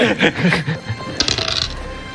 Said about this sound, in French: lance les dés, fait moins de 80.